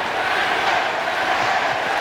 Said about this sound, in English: Joe Adell tries to steal second base. The initial call is that he's out. They send it to replay. Carlos Torres is the replay umpire back in New York. Give a listen. Crowd is chanting safe.